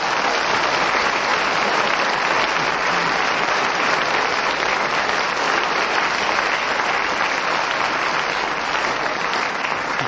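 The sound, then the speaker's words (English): Loud, sustained applause from a large audience fills the whole stretch, a dense steady roar of clapping with no pauses and no voices standing out, as the audience applauds when the whistle goes at the end of a speaker's turn. “That extra loud applause was not only for Derek speaking as the whistle went”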